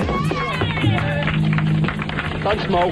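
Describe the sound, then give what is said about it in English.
A woman lets out a high cheering shriek at the end of a band's live rooftop concert, over a steady wash of outdoor noise and other voices murmuring. “Now, here she is screaming at the end of their rooftop concert 5 years later.”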